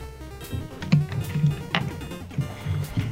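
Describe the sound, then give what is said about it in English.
Upbeat video game music, the track Bases Empty from Power League 2 for the PC Engine, plays on its own, with bouncy low bass notes, sustained synth tones, and sharp percussive hits keeping a lively rhythm at a moderate volume. “This is music from Power League 2 for the PC Engine.”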